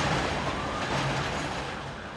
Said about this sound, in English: A block away, the elevated subway train runs right down the middle of Jerome Avenue.